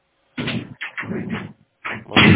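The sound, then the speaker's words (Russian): A circuit breaker being switched off: a few loud mechanical clunks and rattles in separate bursts, ending on the sharpest one, with no talking. “Ну, упс, реагирует, пищит, я слышу, как я автомат вырубаю.”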